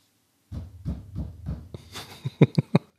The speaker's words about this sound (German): Klopf doch jetzt mal viermal, wenn du das hörst gerade.